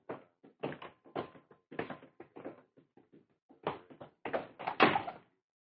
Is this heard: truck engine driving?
no